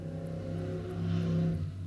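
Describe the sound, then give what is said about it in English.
A motorbike engine drones past outside the window, its steady buzzing tone swelling briefly louder before easing off as it moves away, heard alone with no voices. “Motorbike passing the window.”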